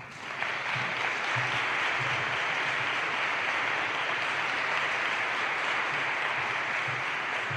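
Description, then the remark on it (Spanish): An audience applauds steadily, a dense wash of clapping that starts abruptly and holds at a fairly loud, even level for several seconds without any talking, welcoming journalist Ángel Cuaresma Renedo as the proclamation speaker (pregonero) of Holy Week (Semana Santa) 2014. “Le damos un aplauso.”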